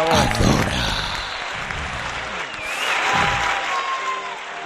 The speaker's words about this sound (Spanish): Un aplauso para los tomates Adora.